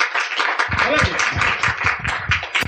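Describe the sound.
A crowd applauds steadily in a dense wash of clapping, with cheers and shouted voices rising over it for most of the few seconds.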